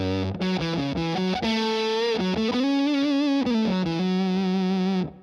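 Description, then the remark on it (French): An electric guitar played through a fuzz distortion pedal, buzzy, saturated and robotic, picking a quick melodic line of short, staccato notes with muted resonances on the F-sharp minor pentatonic scale, with a few longer sustained ones, loud with no talking. “il faudrait vous munir d'une pédale fuzz. C'est donc une pédale de distorsion un peu particulière qui donne ce son très robotique.”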